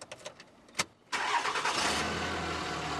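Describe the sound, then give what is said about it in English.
An old pickup truck with a replacement engine cranks with a few short starter bursts, then catches and roars to life, settling into a steady, loud idle with a low rumble. “That truck is running”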